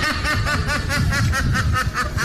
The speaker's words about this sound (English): And then we had, of course, the duck that sounds like a woman laughing.